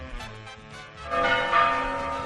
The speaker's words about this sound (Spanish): Escuchar las campanas en directo. Las campanas de Santo Toribio de Liébana sonando ahora a menos cuarto las 12. Ahí estaban, anunciando las 12